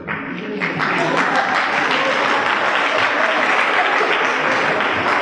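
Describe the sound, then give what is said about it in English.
An audience, with the women rather than the men clapping, applauds steadily, a dense wash of clapping that holds at an even, fairly loud level for several seconds without any speech. “I would have been surprised if it had been the men that had clapped.”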